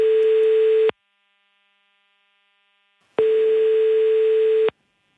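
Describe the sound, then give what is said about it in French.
A telephone ringing tone sounds during a call to Cléa Vincent's Orange voicemail: two loud, steady buzzing tones at a single mid pitch, each lasting about a second, separated by a couple of seconds of silence. “Je passe un coup de fil.”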